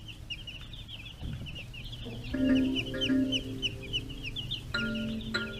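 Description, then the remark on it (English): Many chickens on a farm cluck and chatter together in a busy, continuous chorus, with some louder calls standing out over the crowded background of the flock. “The modern chicken begins life on a farm.”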